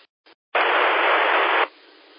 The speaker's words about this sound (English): Okay, same thing there, just a little bit of static.